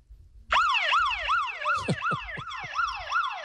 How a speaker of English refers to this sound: But the alarm thing works. Yeah, you want to hear it? Yeah, sure. Here we go. I just pressed it.